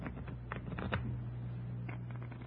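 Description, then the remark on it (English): A deck of playing cards being shuffled, a quick run of soft papery flutters and clicks, fairly quiet over a low steady hum. “Give him a good shuffle, huh?”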